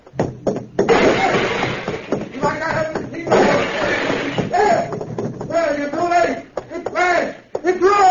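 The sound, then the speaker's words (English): Loud, repeated metallic crashing and smashing as a voice machine in a basement is struck hard with a crowbar, with breaking and clattering debris. Excited voices and cries follow. “I'll let you have this crowbar, too. I'll smash you like I smashed this machine.”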